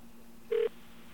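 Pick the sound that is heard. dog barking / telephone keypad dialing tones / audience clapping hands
telephone keypad dialing tones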